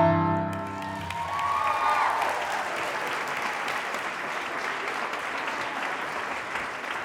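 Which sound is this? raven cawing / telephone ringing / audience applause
audience applause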